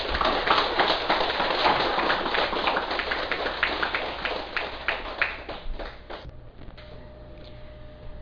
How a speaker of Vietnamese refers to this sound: Xin quý vị ngồi trong một tràng pháo tay.